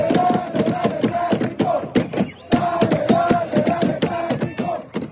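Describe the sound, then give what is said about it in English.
LAFC supporters in a stadium after a game, with drums not allowed, bang out a steady, rapid rhythm on cups and plastic chairs, sharp clattering hits repeating under a loud crowd chanting and singing together, with a brief dip before the beat resumes. “Instead of drums, they improvised with cups and plastic chairs.”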